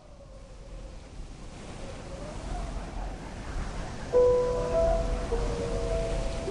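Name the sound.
ocean waves crashing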